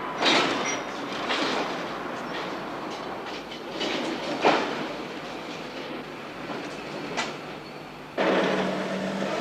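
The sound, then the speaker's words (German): Railway freight wagons roll past on the tracks, a loud, steady rumbling roar with scattered clanks and rattles, swelling sharply near the end; no voices. “Von dem Lastwagen bringt man sie in den Eisenbahnwaggon.”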